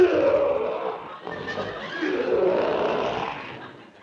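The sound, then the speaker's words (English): A lion in a cage lets out two long, loud roars back to back, rough and throaty with a rumbling low tone that trails off at the end. No one speaks. “That's that lion in that cage over there.”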